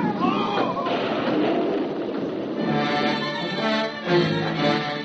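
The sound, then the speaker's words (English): A small rowboat carrying two men overturns in a sudden squall on a little lake: a loud, churning rush of water and splashing fills the first half, then strained shouting voices cry out over the turbulent water. “Both men were drowned in the sudden squall that overturned their tiny boat.”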